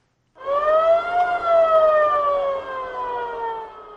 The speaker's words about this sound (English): This ambulance rushes with people said to have been wounded in armed confrontations between Cameroon's military and armed groups from the Central African Republic on the border of the two Central African states.